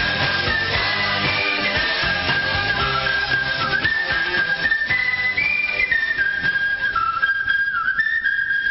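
A person whistles a sustained, wavering tune that slides between pitches, clearly audible over a dense, steady background wash, with no talking throughout.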